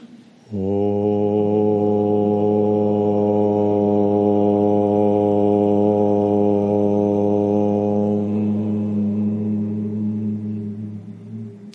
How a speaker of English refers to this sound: And together, let's share the sound of Om.